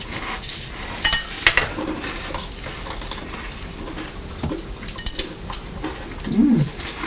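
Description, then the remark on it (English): Two people crunching breakfast cereal with milk, a few sharp, crisp bursts scattered over a steady soft hiss, with quieter chewing in between and no talking. “Both crunching away again, aren't we?”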